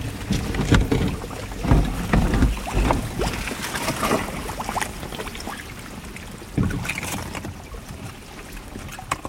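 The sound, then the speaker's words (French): Melting iceberg ice, heard from a stopped boat, fizzes and crackles as countless tiny air bubbles trapped inside are released, a dense, continuous stream of clicks over lapping water, steady, with a few louder bursts. “Ce qui est très impressionnant, c'est que la glace, en fait, ça fait un bruit de bulles.”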